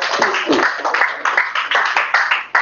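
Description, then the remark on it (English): An audience claps together in praise of Jesus in a loud, dense burst, many hands blending into a steady rhythmic beat with regular accented pulses. “Let's give Jesus another clap of praise.”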